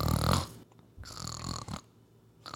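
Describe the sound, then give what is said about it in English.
A person imitates a man's consistent snoring with their voice: a loud, rough inhale followed by a longer, steady rasping snore, then the start of another. There is no talking. “He's a consistent snorer.”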